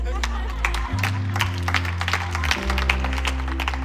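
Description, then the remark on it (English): An audience breaks into scattered applause, with irregular claps of moderate loudness, over a sustained low keyboard chord that shifts pitch partway through. “That would have been a good time to clap.”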